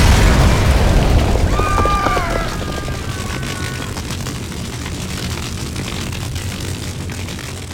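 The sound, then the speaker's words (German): A heavy, booming explosion, set off by a spark in a comb factory on 30 September 1915, bursts at the start and slowly fades into a steady low rumble as the building burns, with brief whistling tones rising above it for a few seconds. “Ein Funke führte zu einer gewaltigen Explosion. Innerhalb Sekunden brannte das Gebäude lichterloh.”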